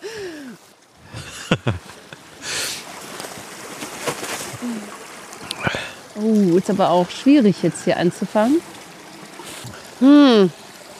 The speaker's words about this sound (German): Also hier ist jetzt über diesen Bach. Wir hängen hier mal wieder an so einem Bach rum.